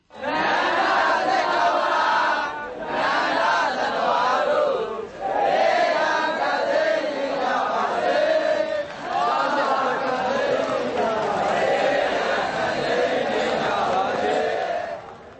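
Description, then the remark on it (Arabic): A large crowd, including monks, chants slogans in unison at a street protest against a military regime, demanding democracy, loud, with rhythmic phrases repeating in waves and brief pauses between them. “وشارك في أعمال الاحتجاج رهبان رددوا هتافات خلال المظاهرة مطالبين بالديمقراطية.”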